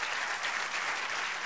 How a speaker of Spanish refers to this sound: Dale un aplauso al Señor. Amén. Dale fuerte aplauso.